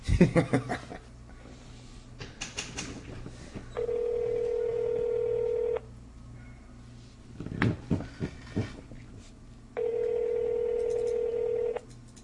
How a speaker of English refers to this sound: Here we go. It's ringing now.